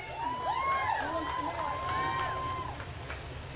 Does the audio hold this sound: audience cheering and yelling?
yes